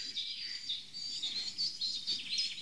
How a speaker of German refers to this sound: Spechti. Hi, schön Spechti. Du. Ja. Das war nicht. Hat der überhaupt eine Singart? Oder hat man nur das Klopfen? Nein, die können auch so schreien. Die können so und manchmal kreischen die richtig.